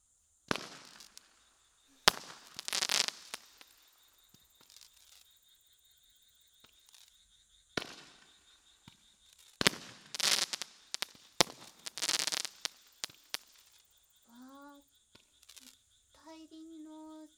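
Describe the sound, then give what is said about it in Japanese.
Sharp fireworks bursts pop and crackle in irregular clusters, some loud with crackling tails, separated by quiet gaps, with faint chirping voices toward the end. “とっても花火です。”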